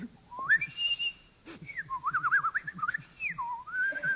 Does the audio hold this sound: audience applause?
no